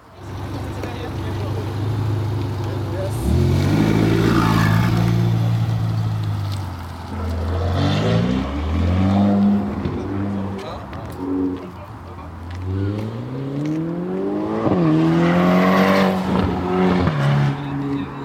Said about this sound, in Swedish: Det var ljudet av en Ferrari, en sportbil av det vassare slaget. Det är en av aktiviteterna idag, att få en provtur med en sån.